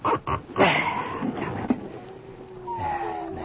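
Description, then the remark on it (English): Several dogs in pitch darkness and rain bark in sharp bursts early on, then settle into high, drawn-out whimpers and whines that rise and fall, moderately loud. “What the hell's got into the dogs?”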